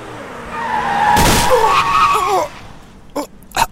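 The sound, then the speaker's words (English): Car tires screech loudly in a long, wavering squeal for about two seconds, followed by a short pause and a few sharp thudding impacts as the skidding car hits a person. “You have just been hit by a car that JPC is driving.”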